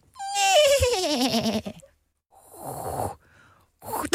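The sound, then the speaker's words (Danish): A person imitates a goat with a loud, quavering bleat that slides downward in pitch, followed by a breathy, snorting sound and a short burst of noise at the end. “Det er en ged, der går gennem rosten her.”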